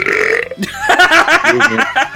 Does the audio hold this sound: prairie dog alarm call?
no